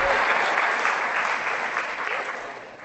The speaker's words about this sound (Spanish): Ahí aplaudieron los hombres, fíjense.